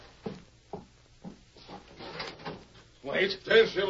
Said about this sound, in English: Open the door